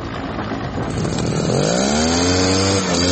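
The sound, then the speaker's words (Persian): A chainsaw roars loudly and steadily, cutting down trees to stop a forest fire in the Genaveh woodlands from spreading, its engine pitch rising as it bites into wood and then holding a strained, buzzing whine. No voices are heard. “صدای اره‌برقی هم برای قطع درختان به گوش میرسد.”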